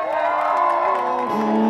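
An audience cheers and applauds loudly and continuously, with whoops and rising shouted voices layered over a dense wash of crowd noise, no single voice speaking.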